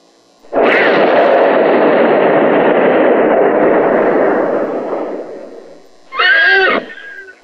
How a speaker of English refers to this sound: The horse.